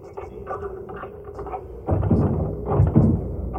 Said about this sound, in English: We're exactly back in front of your front door. Turn right. Good. Up 4 steps. Fine. Now, open the door with your key.